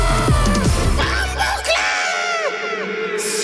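A crowd of many voices at a DJ party screams and yells at once on command, loud, with overlapping high cries; a heavy bass-driven music beat pounds underneath for the first couple of seconds.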